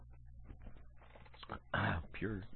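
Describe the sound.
A raspy throat clearing bursts out loudly after a stretch of quiet murmuring voice, followed by a short vocal grunt.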